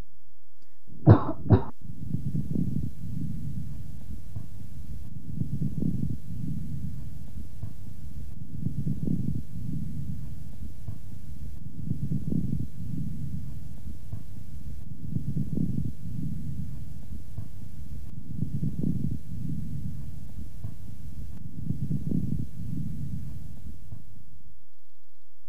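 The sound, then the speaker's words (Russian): A quick double cough, then about seven slow, regular breaths heard through a stethoscope at the same point on the chest of a patient with bronchiectasis, each carrying low, bubbling moist medium and coarse crackles. No one speaks. “А теперь в той же точке после покашливания.”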